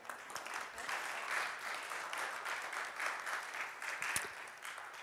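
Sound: spontaneous audience applause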